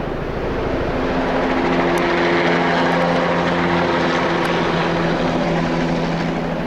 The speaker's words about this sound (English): A helicopter equipped with spray tanks and nozzles doused the mountain with herbicide. You would suddenly hear the thunderous roar, and the helicopter comes up and over the mountaintop and hovers.